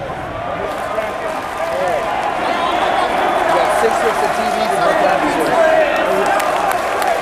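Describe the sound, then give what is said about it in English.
A large arena crowd at an All Elite Wrestling event roars and cheers during the main event for the first AEW World Championship, a dense, continuous wash of voices that swells slightly after the first couple of seconds and stays loud throughout. “Listen to this crowd right now. Listen to this crowd.”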